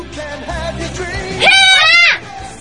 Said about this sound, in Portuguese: Como é que é o grito do Karatê? Vocês dois vão ter que dar o grito aqui agora.